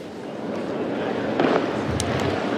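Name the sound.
fireworks exploding outside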